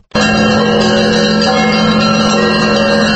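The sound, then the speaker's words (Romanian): Several bells, carried by participants at a street protest in front of the government headquarters, ring loudly and without pause, their overlapping metallic tones blending into a dense, sustained clangour, with no voices audible. “Participanții au dus cu ei pancarde, steaguri, cruci și chiar clopote și au intonat cântece bisericești.”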